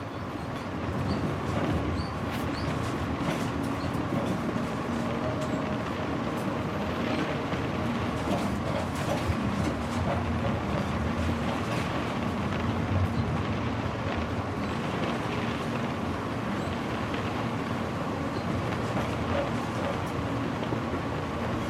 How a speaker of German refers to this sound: Das Rattern des Zuges versetzt dich in eine tranceartige Ruhe.